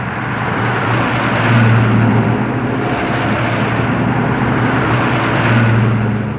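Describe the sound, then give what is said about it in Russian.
Three KAMAZ trucks drive along a road, leaving Chechnya on the morning of 14 June 1995 carrying Shamil Basayev and nearly 200 armed men. Their engines produce a steady, loud rumble with a low droning hum that holds constant throughout, with no voices. “Шамиль Басаев и почти 200 вооруженных человек на трех КАМАЗах и одном автомобиле, переделанном под милицейскую машину, выезжают из Чечни.”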